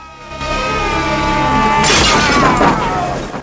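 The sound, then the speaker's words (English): A car windscreen suddenly smashes with a loud, bright crash of breaking glass about halfway through as a man is knocked through it during a fight, its crackling shards trailing off over a steady, sustained tonal backdrop. “Gibson is knocked through a car windscreen.”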